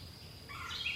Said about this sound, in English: Okay, I want more birds. Oh, there's a woodpecker.